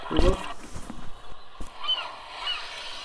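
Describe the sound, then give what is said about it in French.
Seagull calls played from a children's sound book: a loud, harsh squawk at the start, then fainter, higher cries trailing off over a few seconds. “Là, ça doit être les mouettes.”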